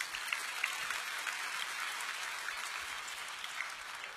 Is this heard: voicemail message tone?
no